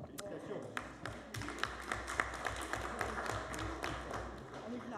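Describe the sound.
Scattered hand claps ring out from people at a council meeting, a loose, uneven applause for absent council member Augustin Ray, who has just become a father. Sharp individual claps sound over a murmur of voices in the background.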